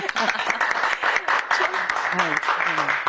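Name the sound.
applause sound effect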